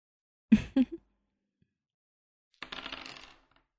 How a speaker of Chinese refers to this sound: 骰子。我们来比大小，输的人喝一杯酒，再脱一件衣服，如何？